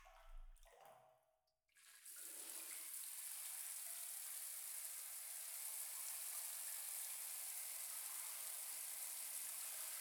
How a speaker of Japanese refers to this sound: ではでは最後にシャワーで流していきますね。失礼します。